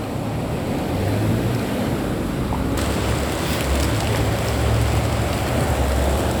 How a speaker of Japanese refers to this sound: 雨が降ってきました。今ちょうどなんて言うんでしょうね、屋根付きの歩道を歩いているところで雨が降ってきて、とりあえず今のところは濡れてないんですけど